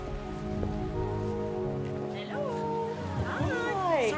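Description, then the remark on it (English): Steady rain patters outdoors as a constant wash of noise during a short walk down a road lined with semi-detached houses to a small church in Mottingham, southeast London, while sustained tonal sounds and rising, warbling voice-like calls drift over it toward the end. “Where it's a short walk, in the rain, down a road lined with semi-detached houses to a small church.”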